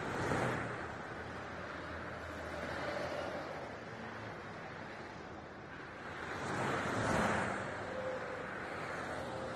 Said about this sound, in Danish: Jeg kunne ikke høre noget fra alle de biler. Ja, så nu er de væk, heldigvis.